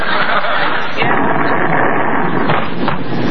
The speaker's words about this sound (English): Gosh, that was an explosion. Geranium, what was that noise? Well, I'll tell you, ma'am, I was cooking one of them price-controlled beefsteaks and the stove blew up.